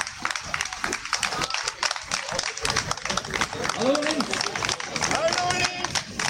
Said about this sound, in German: Und ich bitte dann bitte auf die Bühne. Genau, Applaus bitte.